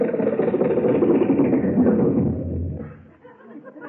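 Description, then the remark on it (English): A Lincoln car's engine idles inside a studio lot with a steady, low rumbling drone that holds for about two and a half seconds, then drops away to a quieter, rougher murmur. “Boss, the gateman let us drive right into the studio with the car.”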